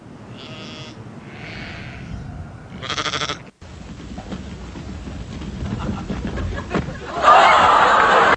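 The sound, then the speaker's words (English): Sheep bleat three times in quick succession, loud. A busy stretch of rumbling background noise follows, ending in a harsh, bright burst. “I jumped on YouTube, and with the power of my MacBook, I threw together a little video just to kind of show a brief picture of kind of the analogy of sheep.”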